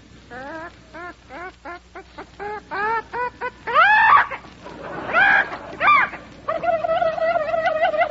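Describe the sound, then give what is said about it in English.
Olivia de Havilland imitates barnyard animals: a quick run of short, evenly spaced clucks, then louder rising squawks and cackles, ending in a sustained wavering, fowl-like warble. “That was Olivia de Havilland's idea of a barnyard.”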